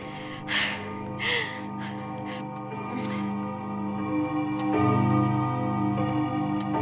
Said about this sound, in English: Oh, I love that clock. Growing up, I'd lay awake at night listening to it ring every 15 minutes